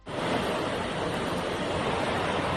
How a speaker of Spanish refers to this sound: Como un auténtico río por el centro del pueblo